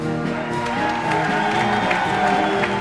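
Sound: audience applause and cheering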